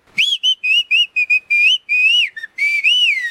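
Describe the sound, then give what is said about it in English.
A series of clear, high whistled phrases of whistled speech in indigenous languages spoken in Mexico (Chinanteco, Tepewa, Nahuatl, Tzeltal, Zapoteco), each a short gliding tone, some rising and falling in pitch, with brief pauses between them, loud with no talking. “If you are listening through earbuds or have a dog in the room, we have one whistling mashup track to play for you now.”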